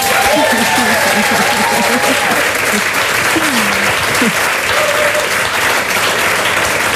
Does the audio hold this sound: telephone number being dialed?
no